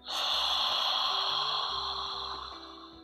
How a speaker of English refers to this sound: And then maybe keep your mouth open and take a deep, sharp inhalation through open mouth.